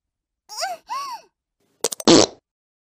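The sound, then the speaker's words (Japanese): Two short rising-falling vocal "poo" imitations come first, then a loud, raspy fart bursts out in a few quick sputters before one longer, rough blast. “ありゃりゃ、プーって言いつつすごい音のが出ちゃいました。”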